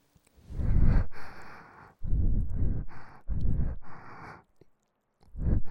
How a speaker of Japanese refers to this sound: お兄さんも興奮してるね。狭いから息遣いとかよく聞こえる。